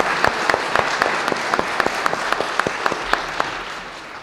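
An audience at a church baptism service claps together in a steady, dense round of applause that holds for several seconds, with a few sharper individual claps standing out above the wash.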